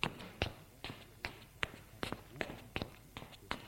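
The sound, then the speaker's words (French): Footsteps of two people walking into an apartment office at a steady, even pace, about nine or ten distinct thuds on a hard floor, fairly quiet, with no voices. “Ils vont au bureau de père.”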